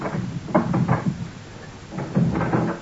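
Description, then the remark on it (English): A locked door being unlocked and opened: two clustered bursts of clunks, rattles and creaks, separated by a brief lull, with no voices. “I will open the door for you.”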